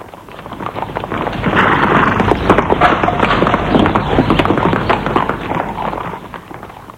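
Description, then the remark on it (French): Rapid hoofbeats of a horse galloping as a rider leaves a castle on horseback, a dense rhythmic clatter that swells in loudness and holds steady over a rumbling background, with no voices. “sort du château, prend son cheval, monte Estelle et part”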